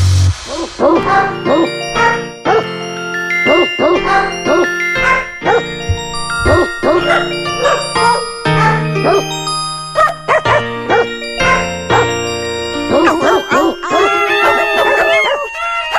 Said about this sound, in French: L'extrait s'appelle Bonne fête, Wouf. Bon. Je l'ai trouvé dans les 15 dernières secondes dans la machine. C'est différent.